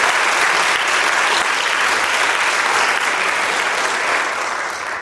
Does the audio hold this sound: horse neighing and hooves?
no